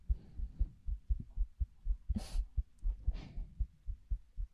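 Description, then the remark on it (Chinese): A person's muffled heartbeat thuds in a steady, fairly quick lub-dub rhythm throughout, with a couple of brief soft rustling bursts partway through and no voices. “她说，心跳声会让人安心下来。”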